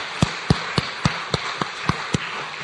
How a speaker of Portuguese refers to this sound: uma salva de palmas para estes três restantes, porque merecem.